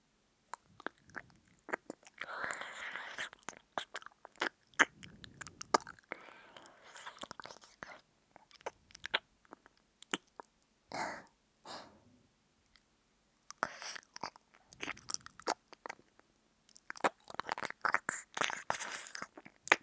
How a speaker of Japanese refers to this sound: いきなりお耳舐められてびっくりした。ダメだよ、声出しちゃう。お姉さんが君のお耳舐めてるなんてバレたら大変だからね。